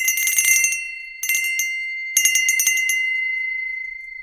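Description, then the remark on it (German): An antique table bell of pure silver rings in three quick, shaken bursts, each a rapid tinkling of strikes over a bright sustained tone, the final one left to shimmer and fade, clear with no voices. “Und dann habe ich tatsächlich auch noch zwei kostbare alte Tischglocken aus reinem Silber.”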